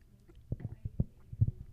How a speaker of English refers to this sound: Get a little water here.